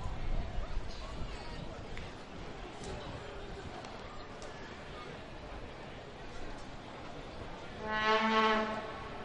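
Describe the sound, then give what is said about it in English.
A truck horn on the bridge between South Carolina and Georgia sounds once near the end, a short, loud, low blaring blast of under a second, rising over steady background noise and faint murmuring voices. “Heard a sort of truck horn there on the bridge that goes from South Carolina to Georgia.”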